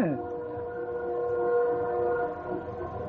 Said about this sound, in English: There's that train again. Echoing in the background. Isn't that right wonderful?